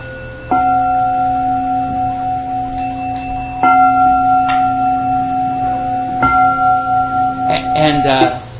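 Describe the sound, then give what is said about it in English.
A meditation bell is struck three times at the beginning of a service, about three seconds apart. Each strike has a crisp onset and a long, steady ringing tone that sustains and overlaps with the next. “The three strikes are nearby because we're building that energy at the beginning of a service.”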